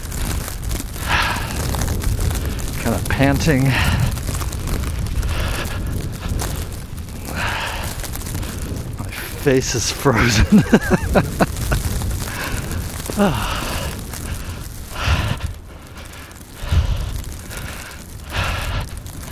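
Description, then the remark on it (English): Strong winter wind roars and buffets steadily in low, rumbling gusts, with a man speaking and breathing heavily between words over the noise as he trudges hunched over, leaning into the wind. “So I'm leaning into the wind here.”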